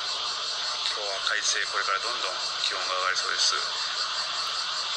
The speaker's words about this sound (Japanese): これ今ベランダの窓開けました、 うん、 聞こえてるかな、 はい、ちょっと分かりにくいんですけど、ただいまクマゼミが鳴いております。千里鳥獣 BBB 本局のここのベランダから 今の、ね、2024年の7月4日木曜日の朝9時32分28秒、気温は26度、